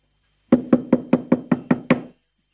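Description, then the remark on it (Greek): Eight firm, evenly spaced knocks on the wooden door of a pasha's palace, fairly loud, delivered in a quick steady rhythm with no voices. “Ας χτυπήσω κι εγώ την πόρτα του σαραγιού.”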